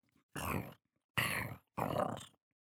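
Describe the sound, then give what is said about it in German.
Three loud rumbling growls in quick succession, each about half a second long, made by a voice imitating the hungry, empty stomach of a little bear growling. “Da knurrt sein Bauch.”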